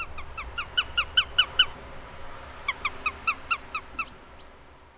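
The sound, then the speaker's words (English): A sparrowhawk calls in two rapid bursts of sharp, repeated notes, about six in each series, with a short pause between. The calls are clear over a quiet background. “The sparrowhawk may then fly its quarry to a hedgerow, plucking it furiously before starting to feed.”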